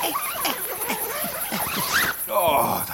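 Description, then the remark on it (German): A zipper on a bag is pulled in a few quick, raspy strokes, with a brief squeaky voice-like sound near the end. “So, Reißverschluss.”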